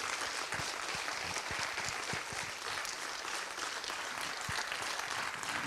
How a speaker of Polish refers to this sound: To jest dobry moment, żeby jeszcze raz wyrazić swój aplauz oklaskami. Panie Michale, to dla Pana. Wielkie brawa.